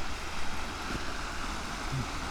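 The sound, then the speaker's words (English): Steady rushing water fills the short recording, a broad continuous wash of creek water spilling over a beaver dam where a little creek flows into a bigger creek, with no voices and only slight fluctuations in level. “Because there's water rushing over it.”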